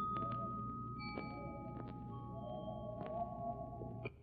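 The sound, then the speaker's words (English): Three soft temple bell notes sound in an apartment one after another, each a sustained, shimmering tone that overlaps the last, over a steady low hum with no talking. “Here we sit in your apartment listening to weird temple bells.”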